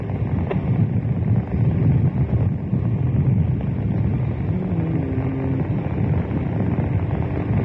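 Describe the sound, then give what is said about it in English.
Strong wind on a rooftop buffets the microphone in a loud, continuous low roar that rises and falls slightly in gusts reaching about 60 miles an hour, with no voices over it. “As I stand on the roof here, the wind occasionally gusting, apparently up to about 60 miles an hour, so strong it blew a policeman's helmet off.”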